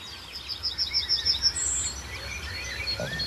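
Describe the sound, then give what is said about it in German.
A yellowhammer sings a quick run of short, high, repeated notes ending in one drawn-out higher note, while other birds chirp softly in the background of an outdoor scene. “Aber hinter mir sehen wunderbar schön eine Goldammer.”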